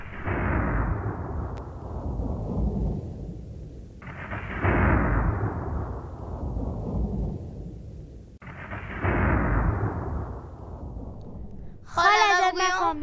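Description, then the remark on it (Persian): Three heavy rolls of thunder, each a loud, deep crack that rumbles and fades over about four seconds. A brief voice speaks at the very end. “آفرین، صدای الماسک یا رعد و برق.”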